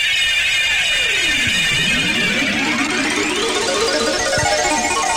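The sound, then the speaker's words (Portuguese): A loud electronic jingle, the best-known electronic tone of sports radio in Paraná, played during a Copa do Brasil broadcast of Palmeiras versus Fortaleza, with swooping tones that sweep down and then climb up over a dense, buzzing wash of bright synthetic sound. No one speaks. “toque eletrônico mais conhecido do rádio esportivo do Paraná, eu confirmo.”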